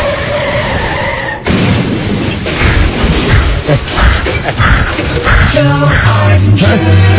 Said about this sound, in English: A man crashed a stolen car through an airport fence and then ran toward a Delta jetliner, which was about to take off for Atlanta.